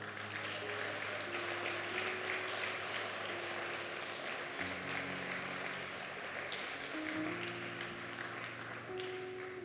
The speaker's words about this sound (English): Let's clap hands for Him today.